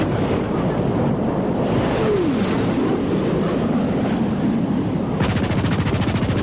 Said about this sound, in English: My God, we're being strafed by somebody in a jet airplane.